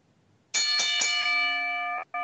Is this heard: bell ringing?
yes